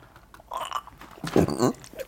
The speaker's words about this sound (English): I just burped up Tito's and it went up my nose. That hurts so bad.